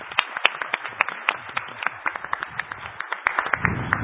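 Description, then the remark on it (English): An audience applauds God's word, steadily for about four seconds, a dense patter of overlapping claps with sharper individual hand claps popping out. No one speaks over it. “Let's give God's word a round of applause.”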